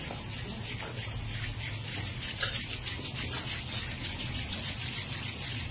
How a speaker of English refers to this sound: And we discovered energy last week, remember, with our hands. So let's rub our hands together once more.